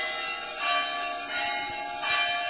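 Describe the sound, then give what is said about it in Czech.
Church bells ring steadily with rich overlapping tones, swelling in repeated strikes every fraction of a second, with a full, resonant hum between the peals and no voices. “Čuj nas, sveti oče, koji odjekuješ od zvona i klepala koji traže spasa.”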